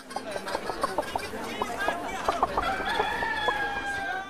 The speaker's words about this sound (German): Sie sahen einen Marktplatz, auf dem ganz viele Hühner kreuz und quer rumliefen.